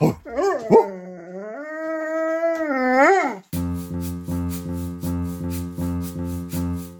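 A dog, asked to howl, lets out a single long howl that rises, holds and wavers for a few seconds, then a steady run of evenly spaced, pulsing tones follows.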